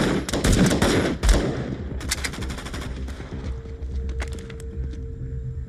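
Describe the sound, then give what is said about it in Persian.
Rapid bursts of gunfire crack out in quick succession, loud at first, then a second volley follows a moment later amid a rumbling, noisy background. Two shooters each fire three shots in a row, one from below and one from above. “هر دومون سه تا شلیک میکنی پشت سر هم، تو از پایین من از بالا.”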